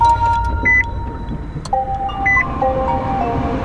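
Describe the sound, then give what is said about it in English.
Inside a moving electric car with no tailpipe emissions, travelling at highway speed: a steady low road rumble with a thin, high motor whine that shifts pitch now and then, plus a couple of brief soft chime-like tones. No one speaks. “I'm riding in a car that produces no tailpipe emissions and is capable of traveling at highway speeds safely and in complete comfort”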